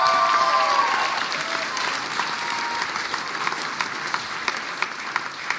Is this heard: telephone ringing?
no